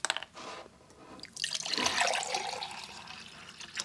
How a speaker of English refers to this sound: Segrillo opens and pours from one of the 2 5-gallon drinking water jugs he fills every week at a grocery store 20 miles away in Green Bay.